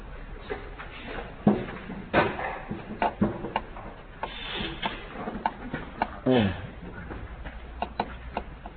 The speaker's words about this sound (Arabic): وأغلق الباب